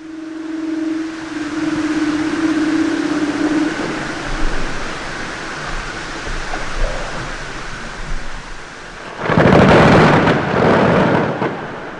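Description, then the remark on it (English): A steady, wind-like roar with a low droning hum builds toward a sudden loud, crashing burst near the end, a deep thundering rumble as the Canadian Ailes ice shelf in the Arctic breaks off on August 13, 2005, as shown by earthquake monitors. “The Canadian Ailes sheet broke off in a sudden thundering event on August 13, 2005.”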